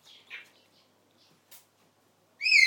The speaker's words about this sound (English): She's doing the outside birds, and at the moment you can hear the parrots getting all talkative and excited because they know it's dinner time soon.